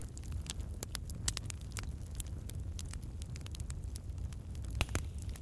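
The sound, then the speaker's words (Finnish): A campfire crackles steadily with frequent sharp pops and snaps over a low, continuous rumble of burning, with no one speaking. “Ja istut nyt tämän miellyttävän nuotion äärellä.”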